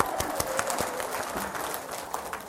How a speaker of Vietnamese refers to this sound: Dạ, bác đây, hồi nãy bác đưa một tràng pháo tay.